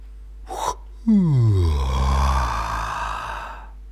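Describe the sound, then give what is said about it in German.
A little polar bear cub in its den yawns: a quick breathy intake, then one long, loud, groaning yawn that slides down in pitch and fades out. The cub is alone, with no talking. “Hier lebt der kleine Eisbär. Kannst du hören, wie er gähnt?”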